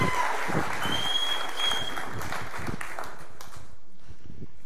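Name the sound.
audience applause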